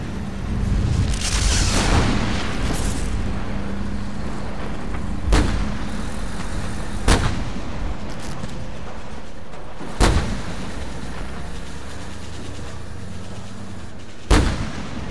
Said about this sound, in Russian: Взрывы бруствер разносили, сверху сыпалась земля. Воздух был заполнен пылью в клубах дыма и огня.